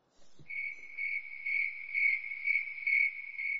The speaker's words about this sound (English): Please don't cut that awkward silence. Please insert crickets chirping.